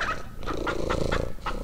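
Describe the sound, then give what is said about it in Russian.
A hen clucks in a quick, steady series of short bursts, about five or six clucks, with a low rumbling hum running underneath. “Кот начал мурлыкать, а курица квохтать.”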